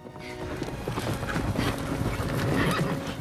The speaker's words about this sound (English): In the distance, two riders gallop across the field. The Queen and Raleigh race alongside each other. They gallop uphill, the Queen riding side saddle. Raleigh's horse takes the lead. They slow to a canter.